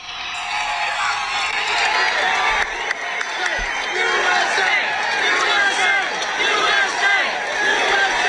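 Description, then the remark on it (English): A large crowd reacts within seconds of a shooting, as Donald Trump raised his fist, with a dense, continuous roar of overlapping shouts and voices that stays loud throughout, broken only by a couple of brief low thuds partway through. “This is at right as the shooting happened, within seconds. This is the crowd.”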